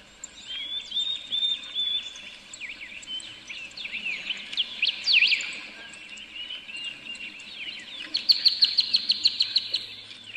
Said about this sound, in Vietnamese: Đấy, mình thấy cái tiếng nước chảy, tiếng chim hót, cái tiếng gió nó thổi nhẹ nhẹ qua những tàn cây